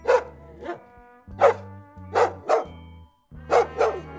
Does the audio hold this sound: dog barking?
yes